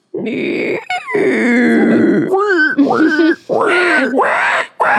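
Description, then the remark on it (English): A voice imitates a pig squeal, a string of loud, strained grunts and squeals with sharp rising and falling pitch, broken by short pauses over about five seconds. “Or can you do a pig squeal?”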